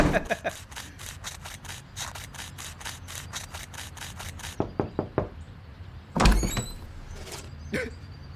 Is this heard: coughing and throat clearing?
no